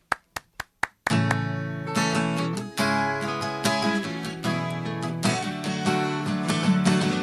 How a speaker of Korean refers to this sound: 제가 박수로 청해드리도록 하죠.